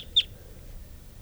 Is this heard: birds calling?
yes